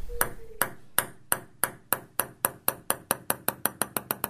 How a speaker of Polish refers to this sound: To odgłos piłeczki ping-pongowej. A teraz proszę wsłuchać się w nagranie z Nadwarty i wyłapać w tym szumie jakby stukot piłeczki. To jest właśnie dubelt.